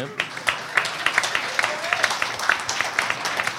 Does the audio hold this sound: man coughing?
no